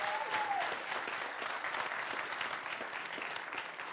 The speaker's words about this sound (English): So let's give the Lord a hand clap of praise.